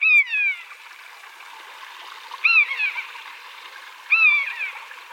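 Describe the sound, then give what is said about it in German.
A common buzzard gives three drawn-out, descending mewing calls, evenly spaced a couple of seconds apart, over a steady rush of flowing water in the background. “Man könnte jetzt auch sagen, es ist der Eichelhäher, aber es ist wahrscheinlich das Original, oder? Es ist das Original der Mäusebussard.”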